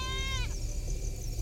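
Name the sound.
goat screaming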